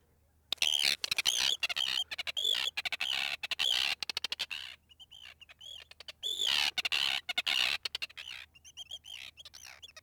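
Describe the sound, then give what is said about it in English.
Harsh, chattering Arctic tern calls come in rapid bursts of sharp, clicking squawks, loud, with brief pauses between flurries and no talking over them. “So up first is the Arctic tern. I'll play that now”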